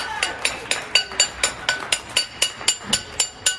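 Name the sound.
people clapping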